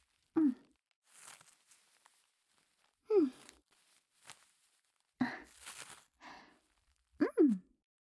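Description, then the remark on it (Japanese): Crinkly ripping and pressing sounds of diaper tapes being fastened as the finishing step of putting on a diaper, in about four short bursts, each paired with a soft breathy grunt or sigh. No words are spoken. “では、仕上げにテープで留めていきますね。”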